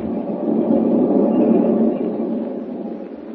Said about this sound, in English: With Lois Lane, an unwilling passenger on a westbound train,